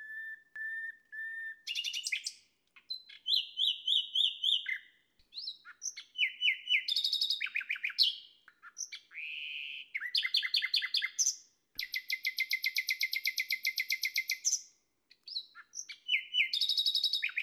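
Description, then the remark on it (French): A common nightingale sings loudly, a varied run of flutey whistles, rapid repeated chirps and buzzy trills delivered in short bursts separated by brief pauses, answering another nightingale in the distance, with no voices. “Voici le rossignol Philomèle.”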